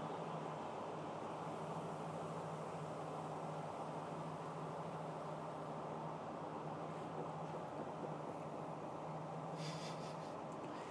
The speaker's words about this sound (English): First Great Western service to Exeter St. James via Bristol Temple Hill. Still drifting in. Tip of speed, yeah. This train has 8 coaches.